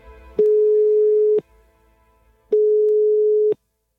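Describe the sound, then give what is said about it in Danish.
A steady, low-pitched telephone ringback tone of an outgoing phone call sounds in two one-second bursts separated by a short pause, clear, with no talking. “Jeg prøver lige at ringe til ham.”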